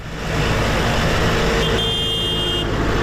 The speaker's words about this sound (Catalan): I un altre dels sons destacats de les darreres hores és el dels tractors a les carreteres de Mallorca i Menorca.